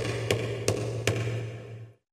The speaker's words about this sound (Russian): Волк побежал к дому и зарычал. В дверь застучал.